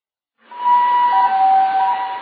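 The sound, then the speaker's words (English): An ambulance siren starts after a brief silence and wails steadily and fairly loud to the end, its tone shifting slightly partway through, with no voices. “Call an ambulance!”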